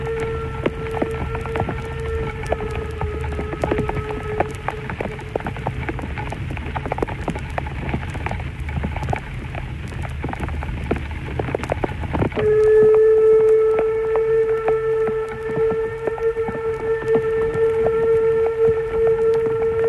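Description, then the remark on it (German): Locomotive 99 7238 of the Harzquerbahn pulls a passenger train through pouring rain between Elend and Sorge stations, the rain's steady hiss and patter mixing with a droning, tonal whistle-like hum that swells louder about midway and holds. No one speaks. “Lok 99, 72, 38 der Harz-Querbahn vor Personenzug in strömendem Regen zwischen den Bahnhöfen Elend und Sorge.”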